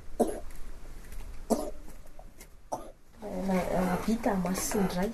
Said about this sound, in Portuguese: Ele vive em Mazindrai, que fica a 1 hora e meia daqui. O bebê está a tossir e tem febre. Foi por isso que ela o trouxe para cá.